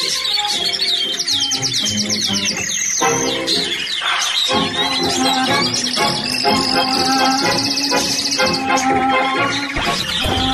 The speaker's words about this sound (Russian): Бог мой, Как прошмыгнула жизнь, я даже никогда не слышал, как поют соловьи.